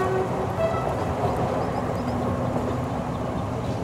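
Steady, loud rumble and rattle of a suburban train running, heard from inside with the doors open, a continuous wash of wheel and track noise with faint tonal squeals and no voices.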